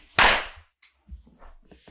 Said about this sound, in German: Also muss man unseren Hörern vielleicht direkt sagen, wir klatschen am Anfang einmal, damit wir synchron sind, damit die im Tonstudio wissen, wann wir anfangen zu reden.